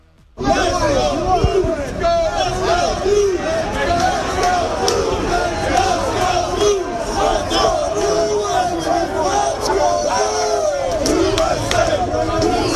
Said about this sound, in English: I kind of wanted you to hear what the crowd sounded like.